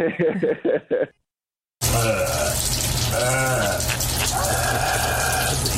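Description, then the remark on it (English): A nasal rinse done after balloon sinoplasty sinus surgery a couple of weeks earlier: following a short burst of voice and a pause, a loud, steady rush of water plays with wet, throaty gurgling and snorting sounds that rise and fall. “Yeah, I had balloon sinoplasty a couple weeks ago, and that is my nasal rinse that I have to do.”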